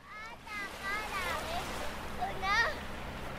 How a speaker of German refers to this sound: In sanften Wellen schwappt das Nordpolarmeer an den Strand der Hauptstadt der größten Insel der Welt. Eine Eisscholle treibt in der Bucht, Kinder spielen im Sand.